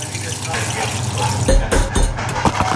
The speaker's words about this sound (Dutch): Je luisterde naar 6 knapperige spicy chicken McNuggets.